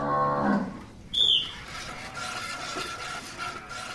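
A cow lets out one loud moo at the start, followed by a brief high-pitched squeak and a steady rumble of background noise, with no talking, during a speed milking contest where competitors had two minutes with a cow used to mechanical milking.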